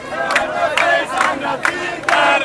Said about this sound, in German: Die Hochrechnungen lösten auf den Straßen der Hauptstadt Tunis Jubel aus. Tausende Menschen zogen am Sonntagabend singend mit tunesischer Flagge durch die Straßen.